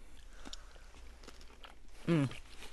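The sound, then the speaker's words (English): Quiet chewing of crunchy salted fish, a few crisp bites spaced out over a couple of seconds, followed by a short voiced hum near the end. “All right, now it's crunchy.”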